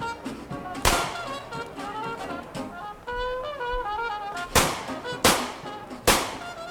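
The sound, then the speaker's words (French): Four sharp pistol shots fired into the air during New Year's Eve celebrations in the streets of New Orleans crack out, one on its own early, then three in quick succession near the end, each loud over a busy, tonal background of sound. “Ce que vous entendez, c'est le pistolet qu'il a chippé chez lui.”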